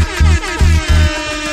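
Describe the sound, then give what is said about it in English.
Three short, deep foghorn blasts sound in quick succession, loud, each a low droning honk, over a faint wavering background; a foghorn sound effect played on the Sci Radio afternoon show. “Foghorn, please.”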